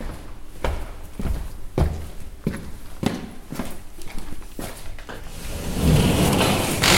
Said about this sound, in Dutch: Doen we eventjes de deur open.